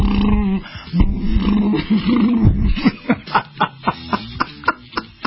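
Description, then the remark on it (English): Joe Biden uses his voice to imitate the engine of his Corvette, with a low rumbling drone that rises and dips for a couple of seconds, then a run of about eight quick, even, punchy bursts like revving. “And then he started making sounds of his Corvette.”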